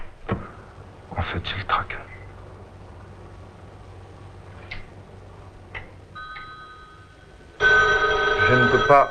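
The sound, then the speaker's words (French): A few sharp clicks and clatters, then a steady electronic tone, before a loud telephone bell bursts into a continuous metallic ring for the final seconds. “Travailler et téléphoner, je ne peux pas travailler et répondre au téléphone.”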